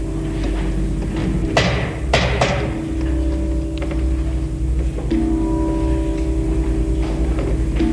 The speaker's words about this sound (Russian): Приблизившись к башне, он стучит в решетчатое окно.